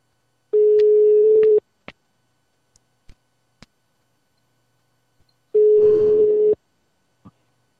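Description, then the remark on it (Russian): A telephone ringing tone: two long steady beeps, each about a second, separated by a pause of several seconds, with faint clicks and ticks in between. “Пошел гудок.”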